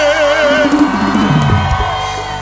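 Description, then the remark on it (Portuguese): A loud concert audience at a DVD recording yells and cheers all at once, raising their arms on request, in a sustained burst of whoops and shouts for a couple of seconds with no pause. “Quem tá gostando, levanta o braço e dá um grito aí!”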